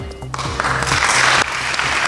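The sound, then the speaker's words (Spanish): A burst of audience applause, dense steady clapping that starts abruptly and stays loud throughout, with a low background hum underneath. “Que no me aplaudan, yo soy uno más.”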